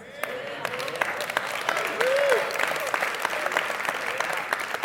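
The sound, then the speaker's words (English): A crowd claps steadily for several seconds, a dense wash of overlapping hand claps with sharp individual smacks poking through, swelling slightly midway, with faint voices mixed in. “Yeah, see, I'm not saying this just because you clapped, but you felt that one.”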